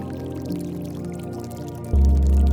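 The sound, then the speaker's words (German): Water bubbling and pouring steadily from a fountain, a continuous gurgling flow at moderate volume; near the end a deep, louder low hum swells in beneath it. No voices. “Der Brunnen sprudelt und von den Bergen fließt das Tauwasser ins Tal und lässt es ergrünen.”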